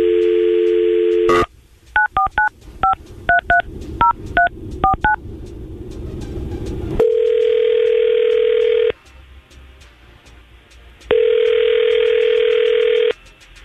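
A steady dial tone, then a quick run of ten or so paired touch-tone beeps as the hosts of Tampa Bay's Morning Crew on radio station 99.5 QYK dial a man's number, followed by two long, loud ringback tones separated by a pause.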